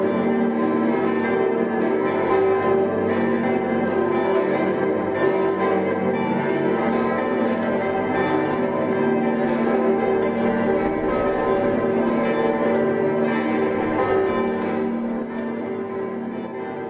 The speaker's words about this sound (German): Das kürzlich auf 10 Stimmen erweiterte, nun drittgrößte Glockenensemble des Landes trägt voller Klangmacht die Frohbotschaft in die Weihnacht hinaus.